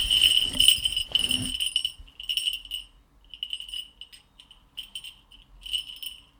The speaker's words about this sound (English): Where were those jingle bells? Where are the jingle bells?